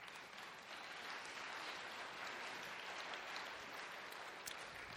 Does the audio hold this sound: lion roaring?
no